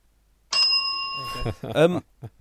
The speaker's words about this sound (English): Use your synthetic bell.